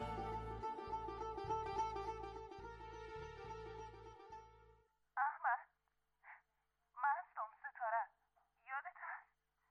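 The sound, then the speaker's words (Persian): A mobile phone rings with a loud, pulsing electronic ringtone for about five seconds, then stops and a person begins speaking in short phrases. “با تمام وجود تصمیم گرفتم به زندگیم خاتمه بدم که دمو لحظه موبایلم زنگ خورد.”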